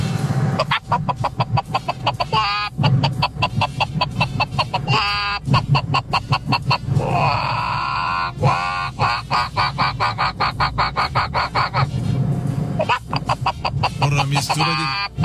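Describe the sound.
A radio caller vocally imitates a chicken and a duck, with rapid, repeated clucking bursts and a drawn-out squawk in the middle, loud throughout.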